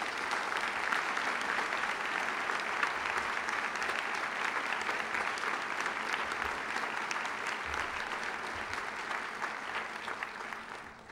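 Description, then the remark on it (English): Sustained audience applause from a large crowd, a dense, steady wash of many hands clapping for about eleven seconds before tapering off at the end. “Please join me now in giving them all a great big round of applause.”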